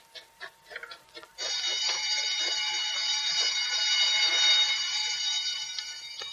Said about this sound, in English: Statewide alarm. Emergency.